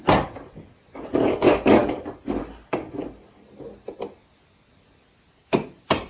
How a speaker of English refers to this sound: Because it's kind of hard to bang with the screwdriver that he's using.